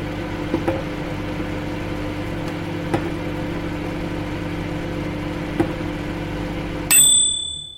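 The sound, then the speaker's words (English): A washing machine hums steadily with a low, even drone and a few faint clicks, then gives a single bright, high-pitched bleep that rings out and fades at the end. “I don't understand why our servant hasn't switched off the bleep on the dishwasher”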